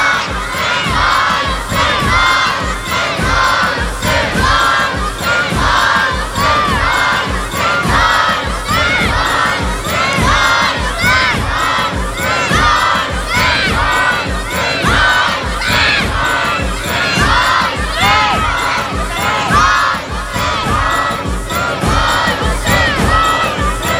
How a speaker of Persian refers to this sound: بچه ها بلند بگن وای حسین، وای حسین.